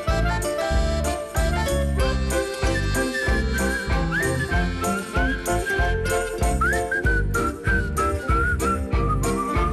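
A whistled melody glides and bends above a loud, full band accompaniment with a steady, driving drum beat, continuing throughout with no talking.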